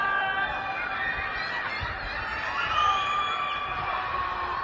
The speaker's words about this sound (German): In diesem Video ist zu hören, wie Menschen sich an ihren Fenstern versammeln und schreien.